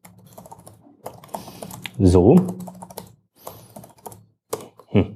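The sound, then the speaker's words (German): Quick, irregular typing of a password on a computer keyboard to set up email encryption and signing, a flurry of clicks and taps, with a man speaking briefly over the keystrokes partway through. “Naja, ich schreibe hier einfach mal was hin.”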